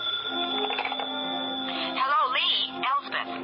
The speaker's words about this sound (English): And then I was startled by the ringing of the phone. I realized it was a call on Lee's private wire.